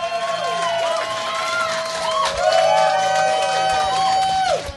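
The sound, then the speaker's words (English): An audience cheers and claps loudly and steadily for about five seconds, voting by applause for a contestant from Orlando, with high whoops and sustained yells riding over the applause before it cuts off. “All right, so we will do this by audience applause.”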